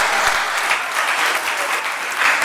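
A crowd claps steadily and densely, a continuous wash of many hands applauding at a fairly loud, even level with no one speaking over it.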